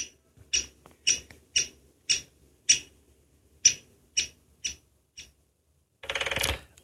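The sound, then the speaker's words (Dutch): A great spotted woodpecker gives about ten sharp, high-pitched single alarm calls spaced roughly half a second apart, then drums in one short, fast, loud, powerful roll at the very end. “Dus dat is een hele korte, krachtige roffel.”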